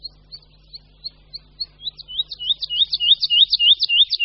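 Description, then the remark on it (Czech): A songbird sings alone, starting with soft, spaced high whistles that quicken and swell into a loud, rapid run of repeated trilling notes, over a faint low hum. “Jeho postupné nabírání tónu do závratné výšky, z které potom spadne hlasitým tlukotem, je v ptačím světě unikátní.”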